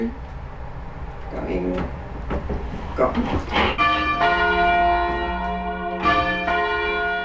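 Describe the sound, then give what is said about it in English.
Large church bells, from a tenor bell the size of a VW Beetle to a treble bell the size of an upright piano, ring one after another, each strike leaving a long, shimmering resonance that overlaps the next, with faint knocks and clatter mixed in at the start. “With a tenor bell the size of a VW bug and the treble bell the size of an upright piano, it's tricky to change the timing.”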